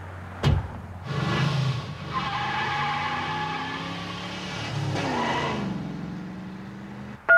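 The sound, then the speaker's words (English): A recording of a car arriving and a car door opening: the engine drones with a whiny, squealing tone for several seconds, framed by a sharp knock near the start and a brief click at the very end. “you said you and your dad got out of the car when the other car arrived.”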